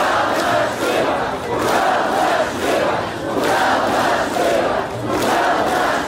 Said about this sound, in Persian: گفته می شود که در اعتراض امروز از 15 تا 50 هزار نفر اشتراک کرده است. آنها راه‌های اساسی شهر را بستند و در نزد شهرداری شعار دادند.